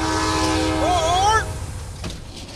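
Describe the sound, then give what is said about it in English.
The Coast Starlight passenger train, running from Los Angeles to Seattle along the Pacific Ocean, rumbles steadily along the rails, with a sustained horn-like tone sounding over the low rolling noise for the first second or so before fading. “The train runs along the Pacific Ocean, through the hills of wine country, past snowy mountains and clear streams.”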